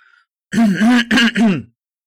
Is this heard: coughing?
yes